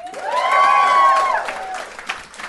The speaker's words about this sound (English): Give me a round of applause if you feel good to be here.